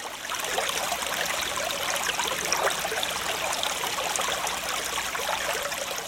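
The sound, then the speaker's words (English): A stream of running water trickles and babbles steadily, a continuous bright rushing wash with no pauses and no voices. “Doesn't that sound refreshing? Doesn't it sound somewhat invigorating? Does it kind of put you in the mood to want to get you a nice glass of clean, fresh water?”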